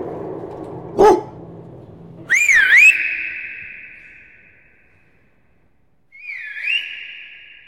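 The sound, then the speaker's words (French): A tired dog lets out a short yelp, then a loud, wavering high-pitched whine that trails off into a long steady tone, followed by a second, quieter whine after a pause. “C'est son cri de ralliement, ça. Quand il est fatigué, il fait ça.”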